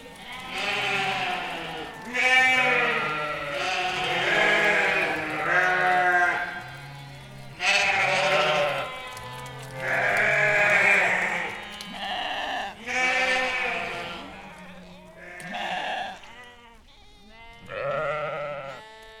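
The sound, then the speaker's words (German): Sheep bleat again and again, several overlapping voices forming a wavering chorus of long, quavering calls, with short pauses between bursts and no talking. “Und wenn ein Schaf im Winter genug zu fressen hat, es friert nicht, es ist dankbar.”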